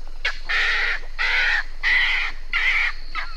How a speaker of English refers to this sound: Now, I hear that when it comes to chirping or tweeting, snowy egrets are pretty silent birds, but they do make sounds when they're startled.